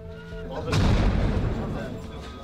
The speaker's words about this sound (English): The lights flicker as another shell hits.